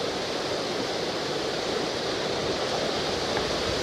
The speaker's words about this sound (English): The wind is blowing. Leaning up into the alder trees above the creek.